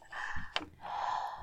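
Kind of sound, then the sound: human body sound, breathing into the microphone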